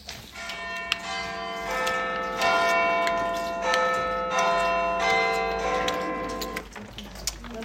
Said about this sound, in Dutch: Een druif voor elke klokslag van middernacht. Precies 12 dus. Maar wat doen ze dan met die 12 druiven? Ze eten 1 druif bij elke slag van de grote klok.